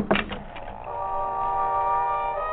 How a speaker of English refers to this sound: The door to the trailer was unlocked, and it swung open at my knock.